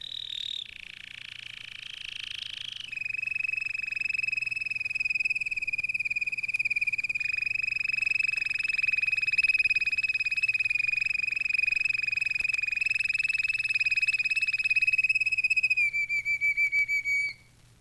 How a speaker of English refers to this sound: Most of the passages are produced with the beak closed. The notes, or tours as they are referred to, may be low, high, or deep-pitched, and sometimes a little plaintive. Billy is a roller canary.